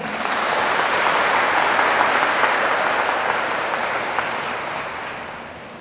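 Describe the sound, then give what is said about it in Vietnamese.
An audience claps loudly and steadily at the speaking teacher's request for about six seconds, a dense wash of many hands that swells early, holds, then tapers slightly at the end, with no voices over it. “Cho thêm một tràng vỗ tay lớn nữa nào.”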